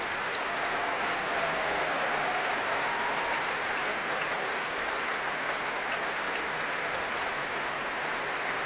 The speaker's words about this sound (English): Applause for bassoonist Graham Sheen.